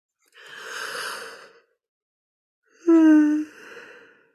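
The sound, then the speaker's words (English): One yawn: a long, airy intake of breath, a brief pause, then a louder voiced, groaning exhale that trails off into soft breathing, with no talking. “My yawning has begun, which means I'm starting to process heavy energy.”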